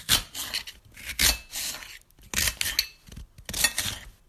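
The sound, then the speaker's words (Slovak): A knife peels and finely chops an onion while vegetables are prepared for cooking, with several crisp, scraping slicing strokes in uneven bursts and short pauses between them. No one speaks. “Musimy cebulę rozkestkować, szyli upackować, a kszajasz, a baniu bielisz.”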